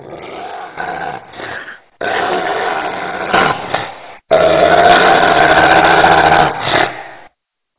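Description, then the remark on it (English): A dog, Titus, growls and barks at a siren in three loud, rough, drawn-out bursts, the last and longest one sustained for a couple of seconds before stopping abruptly. No one speaks. “You know who else hates sirens?”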